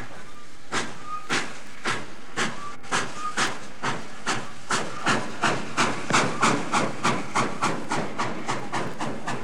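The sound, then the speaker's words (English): A steam locomotive pulls away on a train bound for Stockholm in December 1938, its loud hissing chuffs starting slowly and steadily quickening, with a constant background hiss and no voices. “boarded a train on December 6, 1938, bound for Stockholm.”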